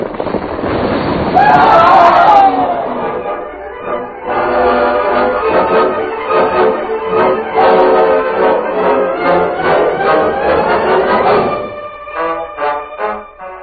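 A loud crashing roar of an avalanche of rock and ice, set off by two men's gunfire, bursts out at the start and buries the two men. It then gives way to swelling dramatic music with rumbling crashes continuing underneath.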